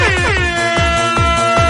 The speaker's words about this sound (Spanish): bocinazo, mejor imposible.